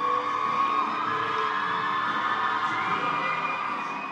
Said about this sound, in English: The troops form up at attention on one side of the curtain, and the families crowd on the other. When the curtain rises, the families go nuts.